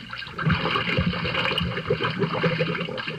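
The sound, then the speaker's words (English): Water churns and sloshes steadily as a small submarine is pushed off into it with its hatch closed, a continuous splashing and gurgling with no voices. “All right, push him out into the water.”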